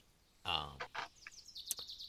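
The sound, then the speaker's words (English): A harsh, raspy screech of a bird-like creature called a periton rings out, followed by a few shorter scratchy calls and chirps, moderately loud with faint background noise. “This creature has a very kind of raspy kind of screech to it.”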